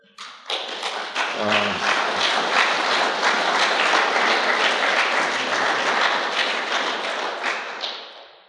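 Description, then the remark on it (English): A crowd breaks into loud, sustained applause, a dense wash of clapping that holds steady for several seconds before easing off slightly at the end. “See, it sounds good, the applause, but I really can't take any credit for that because I've been given a gift.”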